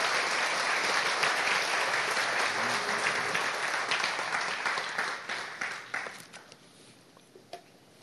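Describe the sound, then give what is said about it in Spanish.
A church audience applauds for Christ during a sermon in a dense, steady wash of clapping that holds strong for several seconds, then thins into scattered, individual claps as it fades out. “Denle un aplauso a Cristo, porque eso es lo que Él quiere.”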